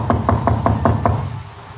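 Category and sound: impact, knocking on a door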